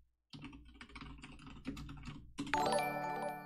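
Rapid, uneven clatter of keys on a computer keyboard for a couple of seconds, then a bright, sustained ringing chime rises over the last moments. No one speaks.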